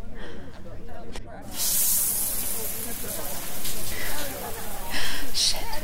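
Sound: shower water running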